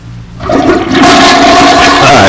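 A toilet flushes loudly and close by, a sudden rush of water that swells after a brief start and keeps roaring steadily to the end, with no voices.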